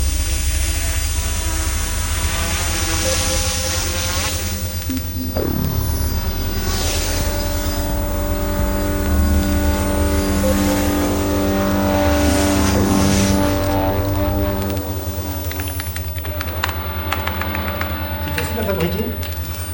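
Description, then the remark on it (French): Drone motors whir loudly and continuously, a layered electric whine that rises and falls in pitch, with a swooping sweep partway through as the machine maneuvers. “Ce qui est compliqué, c'est un drone qui évite les humains. Ça ressemble à cette espèce de machine effrayante.”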